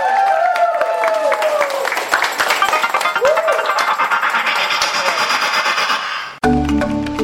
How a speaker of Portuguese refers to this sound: Então, valeu, obrigado, vamos encerrar com uma salva de palmas para todos nós, gente. Vamos lá!